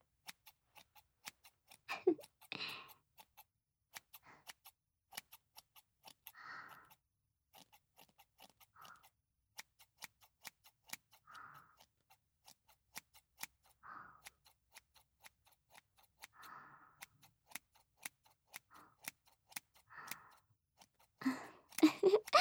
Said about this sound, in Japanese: こっちもチョキチョキ。ハサミの音って、なんだか聞いていると少し眠くなってこない？